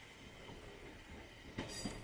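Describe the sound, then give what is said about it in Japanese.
An electric train departs, rumbling steadily along the rails with a low, continuous drone, then a sharper metallic clatter and brief high squeal of wheels near the end. “あ、電車、発車した。”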